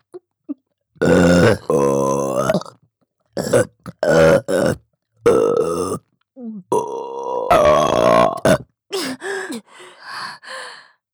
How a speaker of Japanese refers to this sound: ゲップが出るとまた感じる。